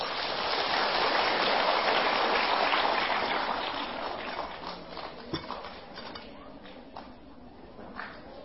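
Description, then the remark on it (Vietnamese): A large crowd of children claps loudly in a dense, steady roar of applause for several seconds, then it thins and fades, leaving scattered individual claps toward the end. “Nếu các cháu thấy những điều mà thầy vừa nói là có thể làm được và tin nguyện làm việc đó thì hãy dành một tràng vỗ tay thật to.”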